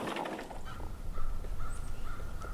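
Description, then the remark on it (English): Several crows fly overhead, cawing in a loose series of harsh, repeated calls over a steady low outdoor rumble, while a barn owl hoots in a distant forest; no one speaking. “Crows fly overhead. In the distant forest, a barn owl hoots.”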